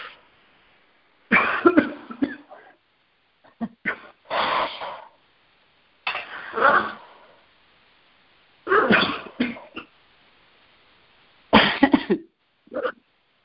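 A person coughs in about five separate fits, each a quick burst of two or three harsh coughs, fairly loud, with short quiet pauses between and no talking.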